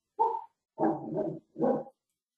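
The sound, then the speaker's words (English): A dog barks three times in quick, uneven bursts, the middle one drawn out and rougher. The barks are moderately loud, with no voices over them. It is a call participant's dog, heard through their unmuted microphone. “You're unmuted. We can hear your dog.”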